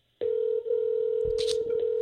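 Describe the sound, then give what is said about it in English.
A phone rings on an outgoing call: a single steady electronic ring tone starts abruptly and holds loud and unbroken for about two seconds, with a brief rustle partway through. “I'm calling her right now.”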